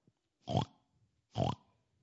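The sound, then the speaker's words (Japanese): A pig grunts twice, two short, throaty oinks about a second apart, fairly loud, with near silence around them and no talking. “英語だとオインクオインクっていうらしいですね。そうです、豚飼いが出てきました。”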